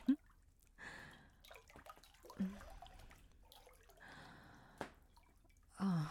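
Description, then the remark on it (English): Water drips from a soapy bath rag as someone is being bathed in warm water, a few scattered plinks spaced seconds apart, fairly quiet, with soft sloshing and wet squishing in between. “Take that rag, the one nearest you. Get it nice and soapy.”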